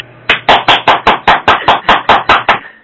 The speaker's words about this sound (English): Yeah, definitely get a clap here.